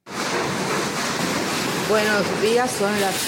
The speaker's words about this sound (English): That sound, that's rain and wind. It's Hurricane Maria 5 years ago, battering the house